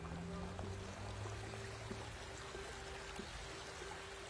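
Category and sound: nature, flowing river water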